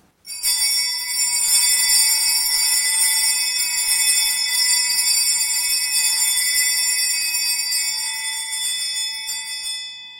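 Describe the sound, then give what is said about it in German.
Church bells ring during a blessing at the end of a eucharistic adoration, with a dense, sustained peal of overlapping bright tones, loud and steady throughout, without any voices. “Während Sie die Glocken läuten hören, darf ich Ihnen den Segen spenden.”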